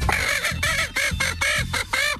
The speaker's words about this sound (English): This does not harm the chicken when you tickle it. No. But just responding to a slight touch, here's the woman and here's the chicken laughing.